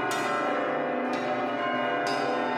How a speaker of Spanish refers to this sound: A los 3 días, todos estaban sordos, pero las campanas seguían repicando, algunas ya cascadas, con un sonar como hueco, como de cántaro.